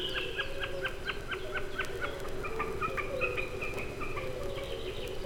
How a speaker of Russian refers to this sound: Слышите, словно барашек блеет. Это высоко в голубом небе такует бекас.